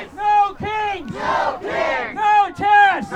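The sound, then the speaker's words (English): A large protest crowd chants "No kings!" and "No ICE!" in loud, rhythmic bursts of shouting, with a rumble of massed voices filling the gaps between each call. “The crowd then began to disperse.”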